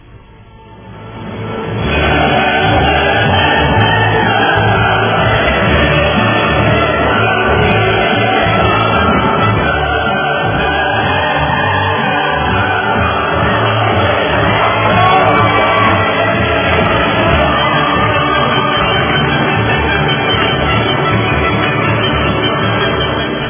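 An audience breaks into loud, sustained applause that rises quickly after a brief quiet start, mixed with shouts and whoops of cheering, continuing steadily for over twenty seconds without speech.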